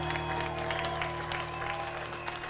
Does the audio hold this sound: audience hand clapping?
yes